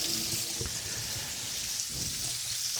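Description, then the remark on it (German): Steady hiss of running water splashing as a zucchini is rinsed clean underneath it, with small irregular spatters and knocks, continuous throughout and no voices. “Die mache ich einfach ein bisschen mit Wasser sauber.”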